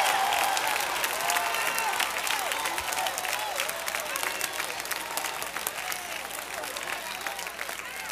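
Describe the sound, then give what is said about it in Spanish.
A crowd at a Spanish-language sermon claps and shouts to God steadily for several seconds, dense applause mixed with scattered raised voices and whoops, loud and sustained before gradually easing a little. “Denle a Dios un grito.”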